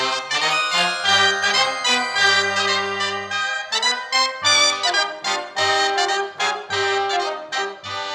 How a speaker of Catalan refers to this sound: La part final ha unit Cobla i Carilló amb diferents sardanes com Per tu ploro de Pep Ventura en l'any del seu bicentenari.